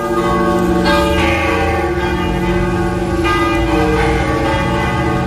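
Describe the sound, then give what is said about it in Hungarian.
The bells of the Basilica of Santa Maria Maggiore ring loudly and continuously, with overlapping tolls and a dense, sustained metallic hum filling the air, resonant, with no voices heard. “Megszólaltak a Mária Maggiore Bazilika harangjai.”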